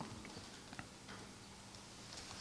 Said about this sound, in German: Eigentlich war diese Uhr schon immer da. Nur seit dem Tag mit den Ärzten hört er sie ticken, immer lauter.